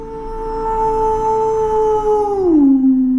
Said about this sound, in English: Rang a distant howl.